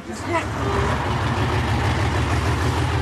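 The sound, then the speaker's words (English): A large bus engine runs steadily with a deep, continuous low rumble, fairly loud throughout, while faint voices murmur underneath, as the bus carries a group of travellers into Serbia. “takes the bus into Serbia, the fourth country on her trail.”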